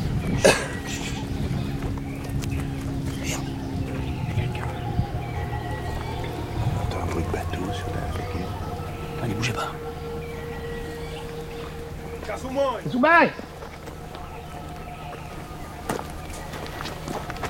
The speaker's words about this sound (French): Donc là, une pirogue à moteur est avancée.